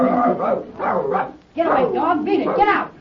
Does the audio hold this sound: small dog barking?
yes